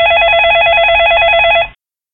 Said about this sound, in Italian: Improvvisamente sente il suono di un cellulare proveniente da una delle toilette.